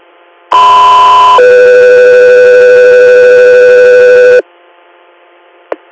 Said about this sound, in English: Echo 3, you're standby for tones.